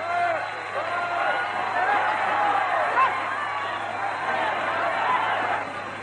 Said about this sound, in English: Everybody's saying shush, trying to quieten the crowd so that Mr. Chamberlain can make a speech.